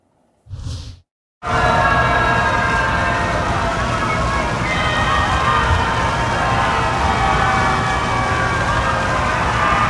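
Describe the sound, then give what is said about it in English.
A crowd at the Supreme Court boos President Trump loudly and steadily for several seconds as he pays his respects to Justice Ruth Bader Ginsburg, a dense roar of many voices, preceded by a short burst of sound and a brief pause. “And also new tonight, President Trump loudly booed today as he paid his respects to Justice Ruth Bader Ginsburg at the Supreme Court.”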